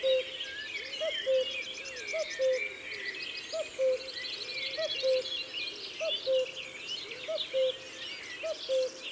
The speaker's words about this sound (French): On l'entend partout en ce moment, mais on ne le voit presque jamais. Le coucou est très prudent.